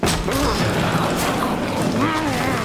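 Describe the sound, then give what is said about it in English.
A rhino named Clive crashes through warehouse doors in a loud, sustained burst of smashing and banging, with rough, roaring tones running through the din for nearly three seconds. “But in no time at all, Clive had smashed his way through the doors and released us from the packing.”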